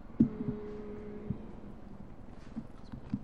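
A faint, low, steady hum rises briefly, as if only a single voice is humming, as meeting participants are asked to hum if they support a proposed direction; only one chair hums. It then fades out under soft background noise and a few light thumps.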